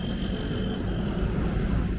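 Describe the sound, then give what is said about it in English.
A steady wash of city street traffic noise in Lahore, Pakistan, dominated by a deep low rumble with a faint high whine running through it, holding constant loudness with no speech. “Now the soundtrack to its streets is traffic noise, not birdsong.”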